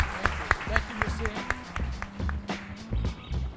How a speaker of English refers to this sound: So ladies and gentlemen, I'd like to get you to all give a warm round of applause for our experts tonight.